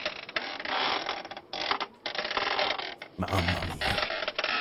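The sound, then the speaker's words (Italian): Loud, strained creaking, as if something is about to snap, in long grinding stretches with brief pauses. A voice briefly exclaims partway through. “No, senti, sta per rompersi in due proprio. Sembra mio nonno che si alza dalla sedia.”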